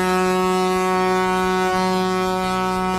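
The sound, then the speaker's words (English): A sheep's horn lets out a long, mournful bellow in one unbroken, deep note, loud and steady with a rich, buzzing tone that holds for the whole stretch without any voices. “The sheep's horn let out a long, mournful bellow.”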